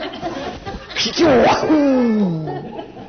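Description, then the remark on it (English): A single sneeze from someone in the audience, a sharp burst followed by a drawn-out voiced tail, set against faint crowd murmur. “Bless you”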